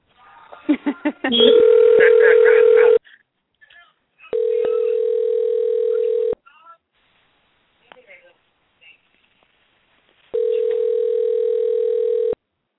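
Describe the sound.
A steady phone ringback tone sounds in three long bursts of about two seconds each, separated by pauses, as a call to a friend is tried once more while others are on the line; a brief blip of voices or dialing comes just before the first ring.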